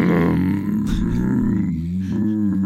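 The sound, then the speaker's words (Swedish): A person imitates a stomach rumble with a low, throaty, gurgling growl, loud for a few seconds, wavering in pitch with no words spoken. “Du vet, båda deras magar låg i någon slags sjuk kurrstereo.”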